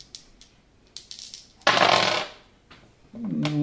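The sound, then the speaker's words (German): Dice are rolled for a Sharp check with a +1 bonus: a few light clicks, then a loud clattering rattle lasting about a second, followed by a short, sustained tonal sound at the end. No one speaks. “Ja, dann würfel mal Sharp mit +1, bitte.”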